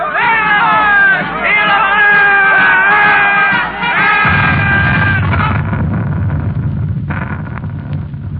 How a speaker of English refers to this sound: Listen, soldiers. They're marching this way. The crowd cheering.